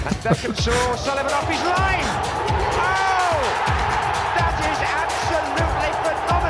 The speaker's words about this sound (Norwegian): Skulle du ha jingle nå? Ja. Ja, ok.